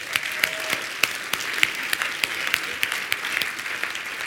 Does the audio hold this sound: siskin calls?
no